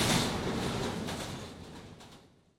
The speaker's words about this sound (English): I like the underground. Me too. It's very fast.